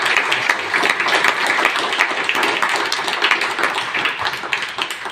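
An audience at a baptism service applauds steadily, a dense wash of many hands clapping at a fairly even loudness that holds for the whole stretch without any voices.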